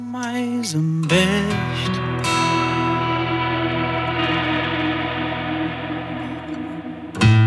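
A rock song intro plays on the radio in its first airing, with sustained, heavily effected guitar chords and a steady bass drone, loud and continuous, with a sharp swell at the start and a new hit near the end.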